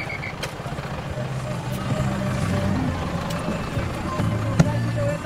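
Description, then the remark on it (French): A Volkswagen minibus used as a colectivo bus, decorated like a caravan, idles and rumbles steadily amid busy street traffic, its low droning hum continuous, with faint background voices and a brief sharp clack near the end. “Les bus s'appellent des collectivos. Des fourgons Volkswagen décorés comme des roulottes, rideaux frangés aux carreaux, des vierges et les pattes de lapin sous le rétroviseur.”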